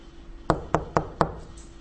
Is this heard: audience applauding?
no